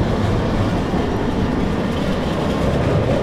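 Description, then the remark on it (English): A north-south train rumbles steadily past, a dense, continuous low roar of rolling wagons with faint rhythmic clatter, loud throughout, with no voices. “The north-south train passing by while I'm marinating, that's a pattern, but that's an easy pattern.”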